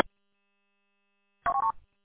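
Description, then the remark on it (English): A quick burst of three or four DTMF signalling tones from a quiet-chain radio, chirpy mid-pitched beeps in rapid succession, following a stretch of near silence that opens with a brief click. “You want to hear that quiet-chain radio on this frequency?”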